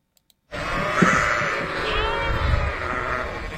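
A flock of sheep grazing on fields of grass in Carson City, Nevada, as part of an annual fuel reduction program to eat dry vegetation and prevent wildfires, bleats continuously after a brief silence, many overlapping wavering calls layered loud, with no talking.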